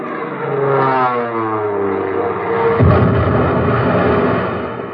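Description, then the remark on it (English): A warplane dives in on a bomb run with a loud, droning engine roar whose pitch sweeps downward, followed by a sharp blast partway through as the engine noise continues. No voices are heard. “Oh, there's the first one now coming in for a bomb run.”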